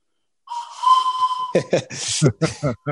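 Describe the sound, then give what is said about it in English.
A single steady, breathy whistle blast lasting about a second, loud, followed immediately by someone talking. “My girls have a few of those whistles”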